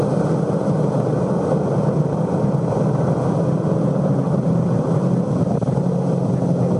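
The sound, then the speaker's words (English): A race car engine roars at high speed in fourth gear on the Nürburgring, a dense, steady drone held at a constant pitch and volume throughout, loud, with no one talking over it. “The Nürburgring, you must be very smooth with the car. This is very fast in fourth gear.”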